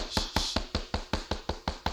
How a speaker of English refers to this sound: Who is that knocking?